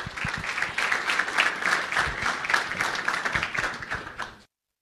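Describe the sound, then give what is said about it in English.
An audience at the Actuarial Society's annual investment seminar breaks into steady applause for the deputy chairman, a dense wash of many hands clapping at a fairly even level for about four and a half seconds before stopping abruptly. “why don't you give him a round of applause to do the official welcome.”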